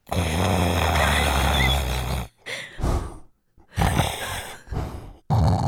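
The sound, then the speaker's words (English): A voice imitates snoring through a breathing mask: a long, loud, rumbling snore with a hissing airy edge, followed by several shorter, rougher snorts and breaths with brief pauses between them. “I'm snoring through the mask.”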